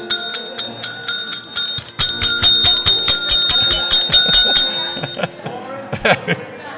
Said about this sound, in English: Bell ain't very loud.